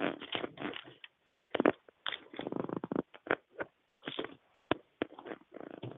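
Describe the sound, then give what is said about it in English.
Papery rustling and crinkling as a Bible page is turned during a reading of Jeremiah chapter 12, coming in uneven bursts with short pauses and a few sharp flicks, all without any voices. “I am turning the page here.”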